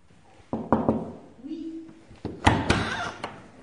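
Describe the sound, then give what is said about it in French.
Several firm knocks on a gatehouse door come in two short bursts of about three raps each, a visitor asking for information. A brief low hum sits in the pause between them. “Et si ensuite, ils souhaitent obtenir un renseignement, ils vont tout simplement frapper à la porterie.”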